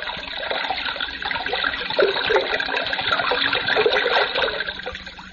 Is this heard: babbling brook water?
yes